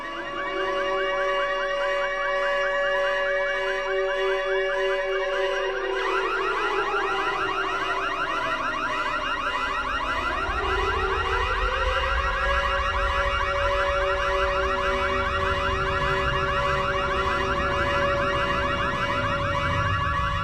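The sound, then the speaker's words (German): A layered sound artwork against the war by an artist from Kyiv, Ukraine, built from alarm sirens: steady electronic tones give way after a few seconds to overlapping wailing sirens that sweep up and down, loud and continuous, with no voices. “Sie zeigen dort ihre Arbeiten gegen den Krieg, etwa diese Soundarbeit von Sascha Kurmas, Jahrgang 86 aus Kiew. Alarming Symphony.”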